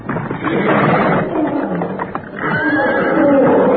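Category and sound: animal, horse neighing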